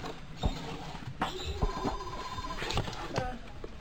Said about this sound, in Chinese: 哎，恁的电话来了嘞。